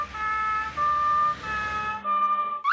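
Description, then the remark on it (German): A red fire engine's siren wails in a loud two-tone pattern, alternating between high and low pitches, then its tone shifts lower as it passes by, ending with a short burst of noise. “Es ist bestimmt toll, eine Feuerwehr zu sein.”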